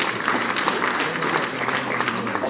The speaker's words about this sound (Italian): E un applauso.